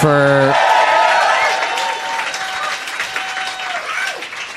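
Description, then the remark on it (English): An audience at an improv comedy show at Upright Citizens Brigade bursts into steady, dense applause after a brief shouted cheer, with whoops and a whistle rising through the clapping, which stays loud and only eases slightly toward the end. “Let's hear it for them.”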